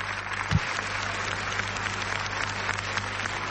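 Sustained audience applause, a dense, even wash of many hands clapping at steady loudness throughout, with a low hum underneath and no voices.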